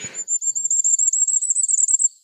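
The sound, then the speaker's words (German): Firecrest song: a very high, thin series of rapid notes running for about two seconds, swelling slightly louder toward the end, preceded by a brief rustle at the start. “Ich spiele noch einmal für euch das Sommergoldhähnchen zum Abschluss ein.”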